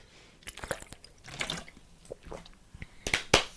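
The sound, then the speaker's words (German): Someone takes a sip of water: soft wet slurps, small liquid clicks and a gulp, ending in a couple of sharper smacking sounds, with no talking. “Erstmal ausstrecken, erstmal einen Schluck Wasser trinken.”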